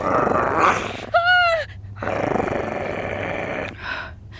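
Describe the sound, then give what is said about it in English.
A coyote growls in rough, raspy bursts, broken by one short, high whining yelp midway, with no one talking. “What do you want, Coyote?”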